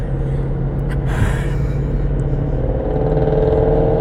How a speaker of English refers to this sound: And there goes that that sports car.